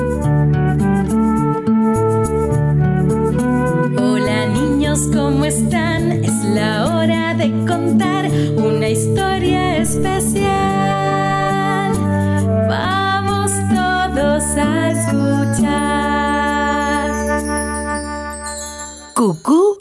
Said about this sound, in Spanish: Música.